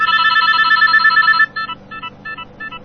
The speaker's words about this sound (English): That's the ring to my new Nokia phone.